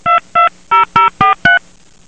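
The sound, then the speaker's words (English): Six short, steady touch-tone beeps from a phone keypad being dialed to call back a caller whose phone got cut off, each a clean dual tone separated by brief gaps, followed by quiet. No one speaks. “I'm going to call them back.”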